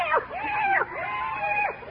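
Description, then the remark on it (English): A cat screeches as it runs away, in a series of rising and falling yowls, loud, each wail sweeping up and down in pitch across about two seconds. “She got away. She'd have made a wonderful A string.”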